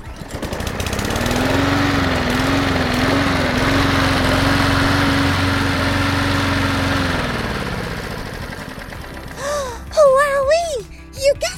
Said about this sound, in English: A lawnmower.